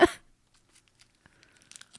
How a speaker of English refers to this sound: Yeah, I can definitely hear that loud. That's gross. No one wants to hear chewing noises.